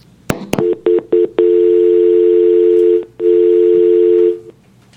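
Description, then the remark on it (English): Telephone dialing to bring another person into an ongoing call: two sharp clicks, then a quick run of short, clipped beeps, followed by a long steady tone that breaks once briefly and resumes before cutting off. No one speaks. “Okay, well, let's dial him in.”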